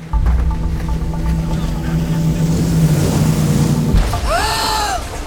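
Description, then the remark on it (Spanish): A motorboat engine off a beach drones and builds into a rough, splashing roar, then abruptly cuts off as the boat crashes, followed by a brief wavering high-pitched squeal. “¿Aquel bote chocó?”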